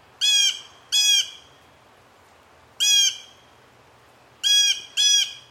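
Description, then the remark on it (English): Five harsh, nasal blue jay calls ring out loud and alone: a quick pair, a pause, one more call, then another quick pair, each a short buzzy squawk rich in overtones. “This month is the blue jay.”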